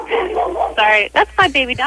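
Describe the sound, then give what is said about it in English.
A pet dog barks several times in quick, uneven succession, sounding slightly muffled and narrow as if over a phone line, after a short stretch of indistinct background voices. “Down, boy, down! Who's barking?”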